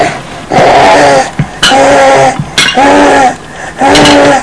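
human body sound, throat clearing

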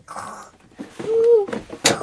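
human body sound, snoring

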